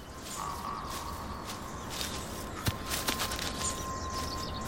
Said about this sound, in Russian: Я иду по широкой лесной тропе в сторону Поповицы, планируя добраться до верхней границы каменоломни Орлова-Бойшта, с которой открывается потрясающий вид на главный хребет горы Фрушка.